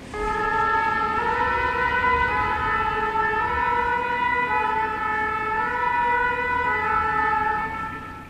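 A loud fire engine siren wails continuously, its harmonic tones shifting slowly up and down as it passes by, with faint road noise underneath and no talking.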